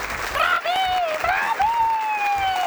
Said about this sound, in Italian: Un applauso a tutti noi, siamo troppo bravi. Bravi!